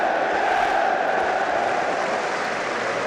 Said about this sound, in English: Jürgen Klopp fist pumps the cup one final time. He beats his chest and the crowd stands in unison to applaud, and now he goes to do each of the other stands as well.